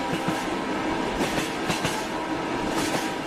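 A train rolls steadily along the rails with a dense, continuous rumble and faint rhythmic clickety-clack of wheels over track joints, fairly loud with no voices.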